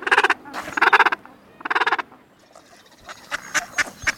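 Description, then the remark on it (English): Gentoo penguins calling in a colony: three loud, harsh braying calls made of rapid pulses, then a busier overlapping chorus of several birds. “All penguins are clumsy on land, but these Gentoos are superlative swimmers, the fastest of any diving bird, reaching 22 miles an hour and diving to 600 feet.”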